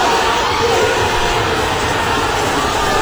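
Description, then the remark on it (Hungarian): A huge stadium crowd roars in celebration of the first goal, a dense, loud wall of cheering that holds steady for about three seconds without letting up. “Első gól.”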